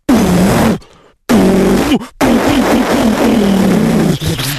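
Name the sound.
sports car engine revving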